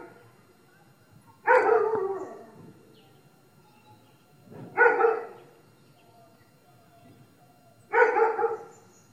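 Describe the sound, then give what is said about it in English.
A dog barks three times, each bark loud and full, with steady pauses of about three seconds between them and quiet in the gaps. “The dog can hear or smell something that we can't.”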